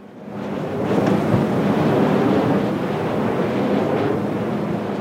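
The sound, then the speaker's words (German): Outdoor ambience at the Boosbüll wind farm, where 12 wind turbines turn on fields beside a pig-fattening facility: a steady, loud rush of wind buffeting across open ground, with a broad constant whoosh that barely rises or falls over several seconds. No voices. “12 Windräder drehen sich auf Feldern neben einer Schweinemastanlage.”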